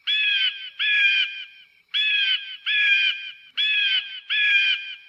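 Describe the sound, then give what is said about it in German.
An eagle flies in, crying out six times in quick pairs, each call harsh and ringing and loud, with short pauses between the pairs and no other sounds around it. “Oh, da kommt ein Adler geflogen.”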